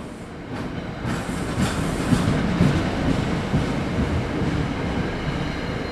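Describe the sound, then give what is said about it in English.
A steady, loud rumble of a train at New York's Penn Station in the early morning, with dense low-frequency roar and faint rattling, continuous throughout with no speech. “gathered at New York's Penn Station, waiting for our early morning train to Newark.”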